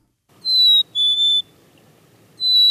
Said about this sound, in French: La mésange à tête noire. La mésange à tête noire est petite et très sociable. C'est elle qu'on retrouve dans les mangeoires en été comme en hiver.